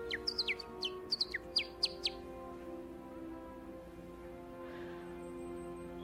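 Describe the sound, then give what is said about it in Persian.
A quick burst of high, sparrow-like chirps and tweets, about a dozen short calls in two seconds, then they stop, leaving a steady low hum with no voices. “یه چیزی به زبون گنجشکا بگو.”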